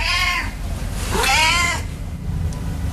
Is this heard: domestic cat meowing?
yes